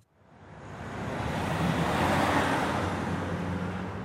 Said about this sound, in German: Bern gestern Nachmittag. Die Sonne brennt, der Verkehr stockt.